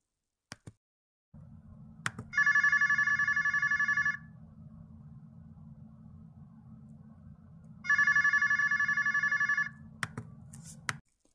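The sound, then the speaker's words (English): A phone rings twice on an outgoing call, two evenly spaced electronic trilling bursts of about two seconds each over a steady low line hum, with faint clicks at the start and end. “I think we need to make another phone call”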